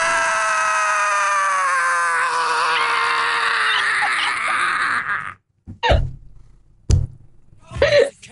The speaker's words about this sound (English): Well, give me your best. Give me your best. Scream helplessly at the sky. Come on. Let me hear it.